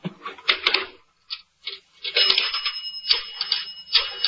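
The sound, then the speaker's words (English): Rapid mechanical clicking comes in uneven bursts with brief pauses, a rotary telephone being dialed to call a newspaper from a restaurant, fairly clear with a faint high metallic ring underneath. “As I dialed the paper”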